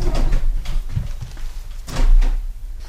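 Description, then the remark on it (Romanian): Several solid knocks on a wooden door, loud, spaced unevenly over a few seconds with a low rumble underneath and no voices. “Colombina, bate cineva la ușă.”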